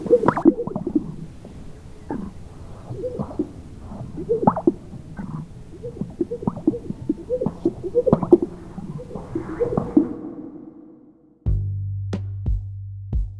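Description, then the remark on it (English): Male sage grouse courtship calls before dawn, as males puff out their chests and strut to catch the females' eye: a chorus of low, wet plops and bubbling gulps repeating in quick overlapping bursts, fading out before a steady low hum takes over at the end. “And this is what their pickup line sounds like.”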